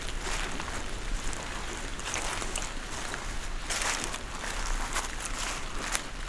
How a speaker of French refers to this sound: Vous entendez, alors que la pluie a cessé, les gouttelettes d'eau qui dégoulinent le long des troncs et des branches de la hêtraie.